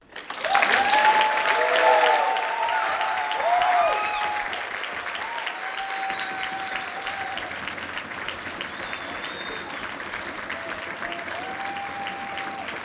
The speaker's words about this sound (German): Bei den anschließenden Abschlussreden gab es dann nochmals großen Applaus für das Organisationsteam der Konferenz.